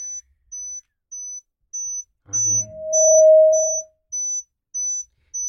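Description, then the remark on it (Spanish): Short, high-pitched hearing-test beeps pulse steadily about twice a second, joined midway by a longer, lower pure tone that holds for over a second as the test changes frequency. A voice briefly speaks as the lower tone begins. “Va cambiando la frecuencia.”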